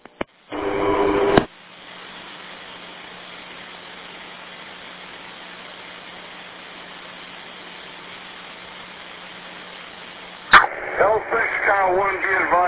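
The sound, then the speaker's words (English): Over a crackly, band-limited fire dispatch radio channel, a brief loud burst gives way to a long, steady low alert tone sounding a second alarm, held for about nine seconds before a voice breaks in. “They just toned a second alarm.”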